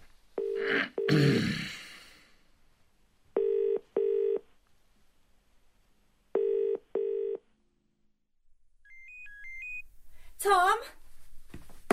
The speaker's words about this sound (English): Your phone's ringing. Yeah, I know.